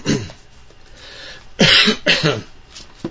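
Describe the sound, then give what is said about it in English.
A person with a lingering cold clears their throat, then gives two harsh, loud coughs in quick succession, with no talking. “I'm struggling with a bit of a cold here that's not quite left me yet. That's why I'm kind of coughing away.”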